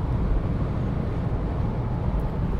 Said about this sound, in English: And the North Wales Expressway, the A55, a dual carriageway with a speed limit of 70 miles per hour, has just gone to 70 miles per hour, this bit here. So, yeah, probably hear the noise, the wind noise. Listen.